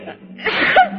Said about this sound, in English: Gesundheit.